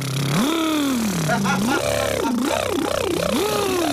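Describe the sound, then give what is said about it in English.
A voice does a buzzing lip trill as a vocal warm-up exercise, swooping up and down in pitch to mimic an engine revving repeatedly, steady for a few seconds with no words. “And then lip trill revs, a bit of this.”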